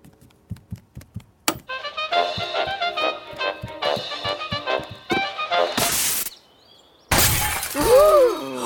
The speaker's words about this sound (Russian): Это мы разбили вазу и устроили беспорядок.